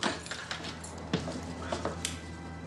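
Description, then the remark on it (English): A door opens into a dark room with a few sharp clicks and light metallic rattles, like a latch and handle turning, over a low steady hum. No one speaks. “A door opens into a dark room and a man flicks on the light.”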